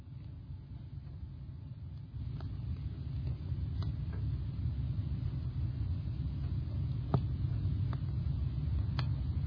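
Steady low rumble of road traffic from a highway, Route 23, a continuous engine drone with a few faint clicks and ticks scattered over it, and no one speaking.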